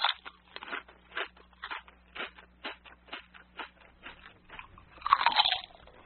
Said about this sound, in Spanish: Todo comienza en la boca, cuando masticamos cualquier tipo de comida.